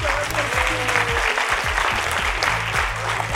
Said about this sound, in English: Come ahead. Give a round of applause, guys.